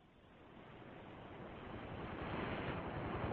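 Steady rushing surf swells gradually louder over a few seconds, a broad wash of ocean waves rolling onto shore with no voices present.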